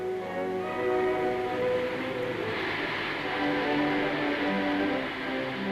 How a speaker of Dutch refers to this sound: Dankzij die ouderwetse en moderne vorstbestrijdingsmiddelen konden toch nog aardig wat treinen blijven lopen, zij het dan ook met veel vertraging.